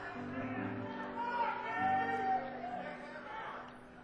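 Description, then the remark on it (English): A crowd murmurs while a single audience member yells out for candy, indistinct, with steady background chatter throughout. “Somebody yelling for candy out there.”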